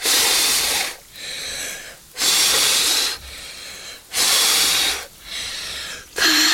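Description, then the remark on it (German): Someone blows air hard in a steady rhythm, strong breathy gusts alternating with softer intakes, about seven bursts in all, with no talking. “Ich kann nicht mehr pusten.”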